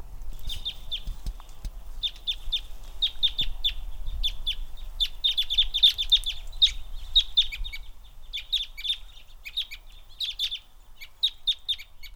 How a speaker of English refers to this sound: Matt Young has analyzed my audio recordings of Fayetteville Country Club crossbills. He finds that most birds are ponderosa pine crossbills, termed type 2. He also found the western hemlock crossbill, termed type 3.